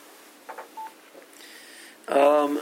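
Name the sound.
mobile phone tones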